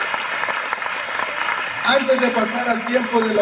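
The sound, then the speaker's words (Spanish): A church audience applauds visitors with a dense, steady wash of clapping, and partway through a voice starts speaking over the continuing applause. “Así que todas las personas que nos visitan, un aplauso más fuerte, ¿por qué no?”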